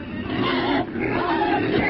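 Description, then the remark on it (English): A person imitates the heavy huffing and puffing breathing of someone sitting next to them on a plane: loud, rough, wheezy breaths that run almost continuously for two seconds, with one brief pause partway through. “But when someone is huffing and puffing next to me on a plane, yeah.”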